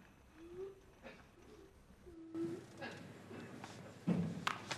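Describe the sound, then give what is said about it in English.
Muffled hunched bodies walk past and bang and thud against the frosted glass doors at the far end of a hospital ward a few times, the heaviest knock near the end, while low drawn-out moaning voices sound in the background. “Suddenly she's distracted and looks over towards the frosted glass doors at the far end, where the shapes of hunched bodies walk past, banging into it.”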